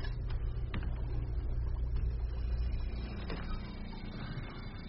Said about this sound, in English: Don't worry. Just the generator.